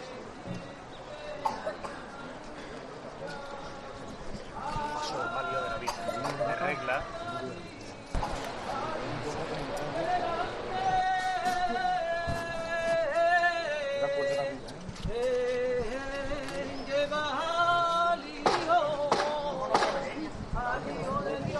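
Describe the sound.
During a Holy Week procession, a saeta is sung to the Panaderos brotherhood's paso de palio, halted before its chapel door, by a lone voice in long, wavering melismatic phrases that rise and hold, unaccompanied, over a steady murmur of crowd noise and scattered clatter.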